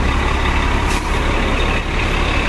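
The heavy engine of an MTA city bus, number 3112 on route QM4, rumbles loudly and steadily, with a brief hiss of air brakes releasing partway through. No one speaks.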